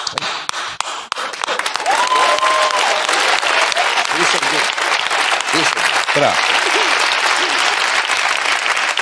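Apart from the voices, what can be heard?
audience applause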